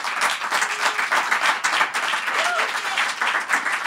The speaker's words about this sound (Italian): Ci siamo adattati e devo ringraziare gli ascoltatori che hanno tagliato panettoni. Infatti, insomma, sono sempre fantastici. Se vi va, gli facciamo un applauso se ci stanno ascoltando.